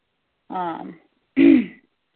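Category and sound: human body sound, coughing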